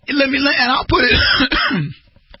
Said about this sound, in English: Sorry, I had to cough there.